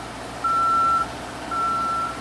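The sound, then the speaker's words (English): A man lift's backup alarm beeps twice during a bridge demolition, each tone a steady, long, high-pitched note over a low rumbling background of machinery, with a crane working. “These sounds are a crane and the man lift backup alarms.”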